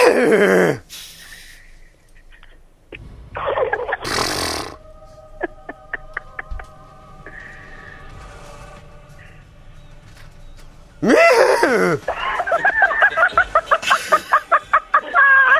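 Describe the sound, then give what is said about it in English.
A person imitates a horse neighing in several loud, high-pitched bursts that slide downward, ending with a long, rapidly quavering whinny; quieter stretches with faint tonal sounds fall between the calls. “You want me to do a neighing sound? I want you to do a neighing sound, see if that works.”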